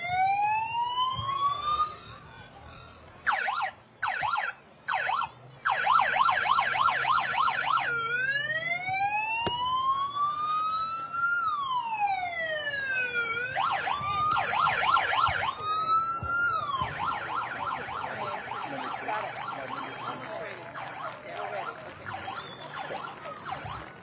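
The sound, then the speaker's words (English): The siren of a DARE program police car blares, cycling through rising and falling wails and rapid yelping warbles, loud and continuous with a low rumble of engine and crowd noise underneath. “We got the DARE car who's daring to have their siren going on right now.”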